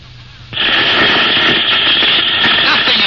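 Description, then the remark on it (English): After half a second of low hum, loud harsh radio static bursts in and holds steady, a dense crackling hiss of electronic interference as Rocket Cruiser Polaris tries to raise Rocket Scout 4, J9, with no voices. “Just a lot of electronic interference.”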